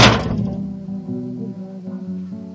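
A single sharp, loud slap in the face cracks out at once, then a low, humming resonance lingers and slowly fades for a couple of seconds. No one speaks.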